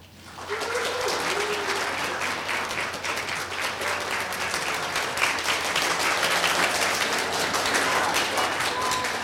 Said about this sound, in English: Well, you think it's moderately likely, although I noticed there were five computers in the audience, being as this is the Computer History Museum, who were applauding as well.